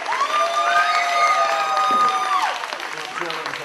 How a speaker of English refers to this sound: All right. Down. The crowd goes crazy.